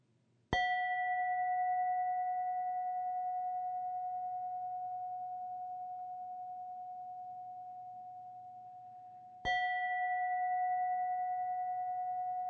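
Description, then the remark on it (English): A meditation bell is struck twice, about nine seconds apart, each strike ringing out with a clear, sustained tone that slowly fades, the second strike cutting in while the first still hums. “Each meditation will begin and end with the sound of a bell.”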